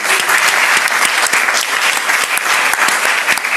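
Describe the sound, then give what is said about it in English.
A crowd applauds steadily, a dense wash of many hands clapping at an even, loud level with sharp individual claps popping through, no voices heard. “Another round of applause for everyone that's shared.”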